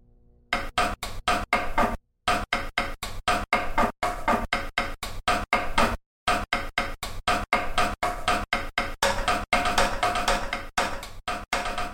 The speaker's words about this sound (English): In this telescope here, the Thorogood, I was kind of interested in the clicking and kind of clanging sound that we have here that you use to adjust the actual telescope.